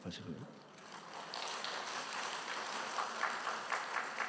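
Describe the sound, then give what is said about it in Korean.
An audience of seniors breaks into steady applause, moved by a speaker's story, many hands clapping in a dense, continuous patter that swells after a brief opening and holds at a moderate level throughout. “무슨 얘기를 하든지 감동이 되면 막 박수를 쳐주시니까.”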